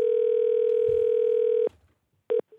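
A steady telephone dial tone of an outgoing call to a hotel hums loudly for over a second and a half, then cuts off abruptly. After a brief pause, a short tone burst and a faint beep follow.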